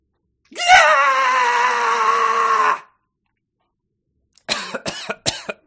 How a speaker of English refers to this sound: And a laugh. So you did the scream and then laughed at the end. Uh-huh. That was good.